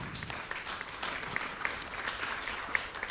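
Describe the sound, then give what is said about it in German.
An audience claps steadily, a dense wash of many hands with small sharp accents scattered through it, sustained at a moderate level for a few seconds with no one speaking. “Genau, erstmal ein großer Applaus.”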